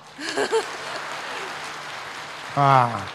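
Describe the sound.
A steady wash of audience applause runs for a couple of seconds at a question-and-answer session with 陆台长, framed by brief bits of voices at the start and a louder voice cutting in at the end.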